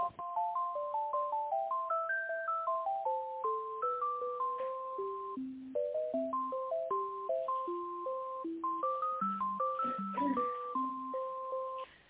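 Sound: telephone ringback tone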